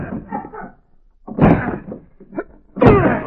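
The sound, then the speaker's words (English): Faint murmuring voices, then two heavy, booming thuds against a door with a lighter knock between them, as the locked door of room 420 off a fourth-floor corridor is broken in. “The door is locked. We'll have to break in.”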